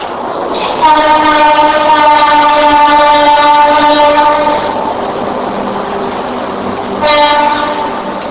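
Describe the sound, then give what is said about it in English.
A train horn blares in one long sustained blast for several seconds, then sounds again briefly, over the steady rumble of a passing train. “Are we going to wait for the train to go by?”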